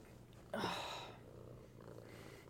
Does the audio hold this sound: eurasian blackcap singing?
no